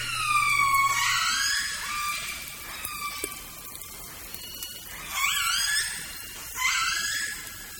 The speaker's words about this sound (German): Dies waren Aufnahmen von freilebenden Orcas, die im Meer vor Vancouver Island zu Hause sind.